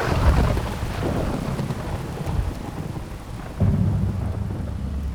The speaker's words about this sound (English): A chronicler monk of the day describes how the people on the building site react to this grisly storm.